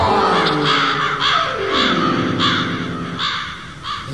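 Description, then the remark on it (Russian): A flock of black crows flying in from all sides caws loudly and harshly, about six rasping calls in a steady repeating rhythm, with a low droning tone sliding underneath. “Тараканы варят суп и летят со всех сторон тучи черные ворон.”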